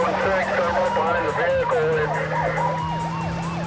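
car driving

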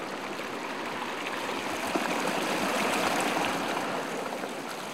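mountain stream water flowing

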